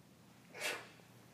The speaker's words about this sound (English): Bless you.